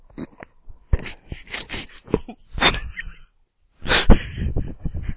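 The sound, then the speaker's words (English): Wrestler Daniel Bryan imitates a dog barking for a voice alert system, giving a run of short, rough barks and yaps in uneven bursts, with a brief pause before a final louder bark. “They have to do their own voices for the voice alert system, so they had him bark as a dog.”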